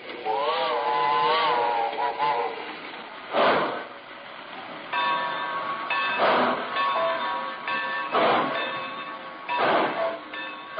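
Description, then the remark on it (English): A Great Valley Railroad passenger train, the weekend flyer, pulls into the Lelandsville station platform, stopping on signal, with high squealing tones like brakes or a whistle and several loud bursts of hissing steam at irregular intervals, fairly loud, with no voices. “Lelandsville was a whistle stop for most Great Valley trains, but the weekend flyer stopped for us on signal.”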